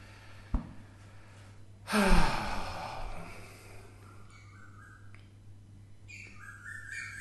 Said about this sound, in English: Do you hear the birds?